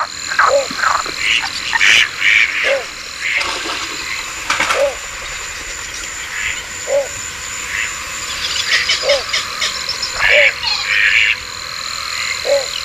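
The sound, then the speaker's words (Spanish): Frogs croak repeatedly in a steady, overlapping chorus across a quiet marsh at nightfall at the Huyal de Valdoví in the Albufera wetland, with higher chirps and trills scattered above a low, continuous ambient hum. “seguimos en el Huyal de Valdoví, pero al caer la noche, que es esa hora del cambio de guardia, donde los últimos sonidos del día dan paso a los figuras de la noche.”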